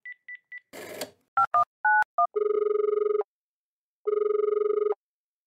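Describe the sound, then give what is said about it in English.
A phone call being placed: a few short beeps and a brief static burst, quick dialing tones, then two long, steady ringing buzzes separated by a pause. No one speaks. “I mean, you think he'll answer the phone?”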